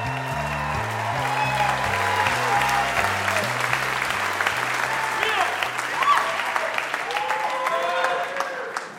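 A live audience at the Ordway Concert Hall in St. Paul, Minnesota applauds steadily and loudly, with scattered cheers and whoops rising above the dense clapping, while a low musical bass line pulses underneath throughout.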